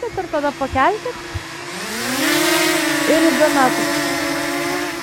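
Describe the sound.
A drone's motors buzz in a steady high whine that rises and wavers in pitch as it flies, starting after a few seconds of voices and continuing under brief talk.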